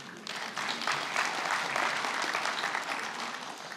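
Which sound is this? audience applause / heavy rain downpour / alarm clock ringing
audience applause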